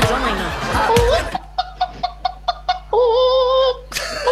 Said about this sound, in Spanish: De una gallina, bro. Oye, pero la gallina, ¿qué onda, loco?